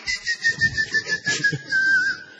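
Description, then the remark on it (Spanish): A boyero bird's whistling call: a steady, fairly loud tone that wavers and bends slightly over a couple of seconds, with a soft pulsing rumble beneath it and no talking. “El silbar del boyero que mientras fabrica bollas chifla.”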